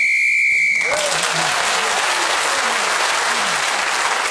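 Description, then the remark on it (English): A single sustained whistle blast sounds for about a second, blown to end a round while Russell Kane was speaking, then loud applause erupts and carries on to the end. “Russell Kane was speaking as a whistle away and gained that extra point.”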